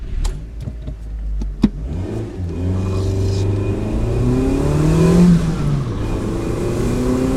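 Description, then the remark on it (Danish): A small car with a 1.5-liter engine revs up and accelerates, reaching 100 km/h in about 10.5 seconds. Its pitch climbs steadily over a few seconds after some brief clicks at the start, loud with no talking. “Hestekræfter, en 1,5 liters motor, og de 100 km i timen når vi på omkring 10,5 sekund, hvis vi øvrigt fortsætter.”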